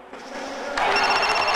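mobile phone ringing

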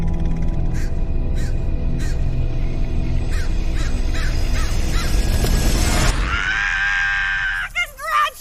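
raven cawing

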